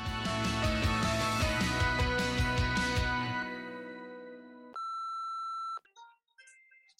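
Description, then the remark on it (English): Music fades out, then a single steady electronic beep from a 4S phone set on mute sounds for about a second, clear and fairly loud with nothing else playing, followed by faint rustling. “I put my phone on mute, and I don't know why this is coming.”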